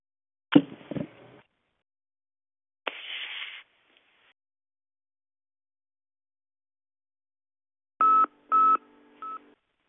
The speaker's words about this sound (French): mais nous ne suivons pas lorsque vous appuyez l'étoile et le chiffre 6 de votre clavier du téléphone que vous avez.